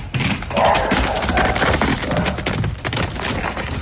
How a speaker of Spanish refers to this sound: Escucha ahora este otro sonido. Nuestro protagonista llega corriendo, feliz, es Chulo, un ternero que pesa 131 kilos.